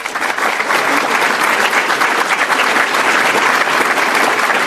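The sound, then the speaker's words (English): Sustained audience applause: dense, steady clapping from many hands that stays loud and even throughout, with no voices rising above it. “ProPublica, Chalkbeat, and Bettina's group, a big round of applause.”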